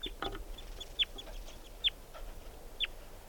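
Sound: juvenile wild bird calling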